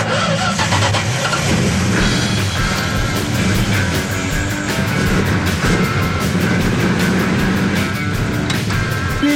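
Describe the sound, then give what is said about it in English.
A muscle car engine cranks and catches, then settles into a loud, rumbling idle with a steady throbbing rhythm, with no talking over it. “Feel free to give it a crank if you want.”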